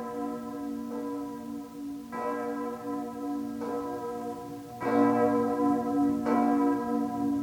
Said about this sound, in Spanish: Nuestros mejores deseos te los traen las campanas.